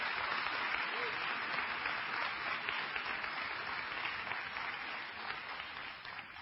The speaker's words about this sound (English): Can you just give the Lord a hand clap of praise?